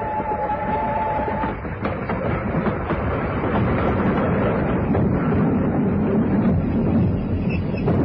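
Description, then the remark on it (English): A train rumbles loudly and steadily along the rails with a thick, grinding roar, a thin high squeal at the start as the brakes are put on, continuing without pause for about eight seconds. “Brakes, quickly, man. Put on the brakes. I'll have to throw it into reverse.”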